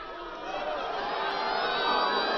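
A large crowd cheers and applauds loudly and steadily in response to a line by Sarah Palin during a U.S. election campaign. It is a dense wash of clapping and whooping voices that swells slightly and holds without pause.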